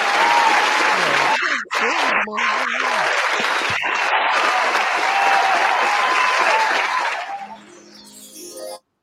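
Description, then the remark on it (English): A crowd applause sound effect played on a show as a guest's hand clap sound: dense, steady hand clapping with a few whoops mixed in, holding loud for about seven seconds before fading out near the end. “Man, listen, you're going to do the hand clap.”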